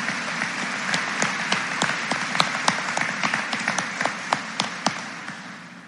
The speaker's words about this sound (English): please stand and give them a round of applause for perfect attendance throughout their entire senior year.